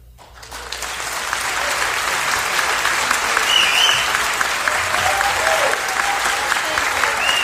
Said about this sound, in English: Usually I don't play the applause after a live show, but I wanted you to hear the Barter Theater and how enthusiastic they were. And I was in that crowd. I'm one of those people clapping.